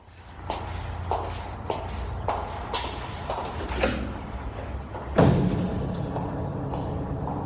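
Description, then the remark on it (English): Footsteps walk away at a steady, even pace as a hospital ward sister draws the curtain around a bed and heads out of the ward: about seven or eight soft heel strikes that gradually fade, followed by a single louder rustling thump over a low background hum. “The sister gives her a disapproving look, draws the curtain around the bed, then heads off out of the ward.”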